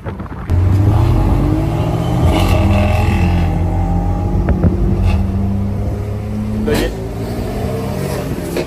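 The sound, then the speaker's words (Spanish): A BMW M4 GTS engine revs loudly, its droning pitch climbing and dipping over several seconds, with rough wind noise buffeting the microphone throughout. “Pero me encantan los coches, mira eso.”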